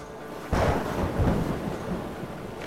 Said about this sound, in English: It was in the Atlantic Ocean, about halfway around the world, when the worst storm hit.